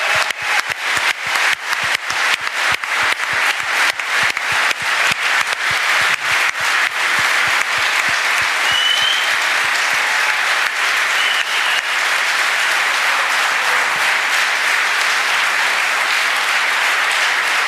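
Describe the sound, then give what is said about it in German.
A live audience applauds loudly and steadily for the whole stretch, dense clapping without pause and without any voices breaking through. “Danke an euch, an das Publikum. Für uns das erste Mal hier, wirklich so mit dem Live-Publikum.”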